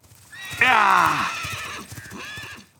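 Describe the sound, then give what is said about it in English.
A horse lets out one loud whinny that starts high and shakes downward over about a second, trailing off into softer snorting and faint background noise. “Hunting horses are strong and fast.”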